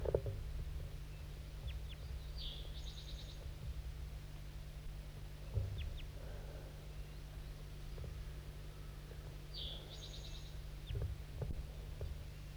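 Two brief bursts of high, chirpy crossbill calls, spaced several seconds apart, calling back and forth with another crossbill, bird 5-3, sound faintly over a steady low rumbling hum, with a few soft clicks in between.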